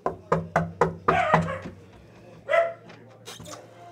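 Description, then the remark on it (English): A small dog named Thor barks in a quick burst of about six sharp, yappy barks, followed by a brief whiny yelp and a few softer yips. “lives with a little dog named Thor.”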